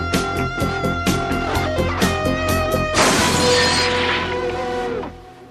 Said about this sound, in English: I'll wish that window wasn't broken later.